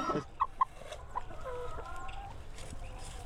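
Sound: hens clucking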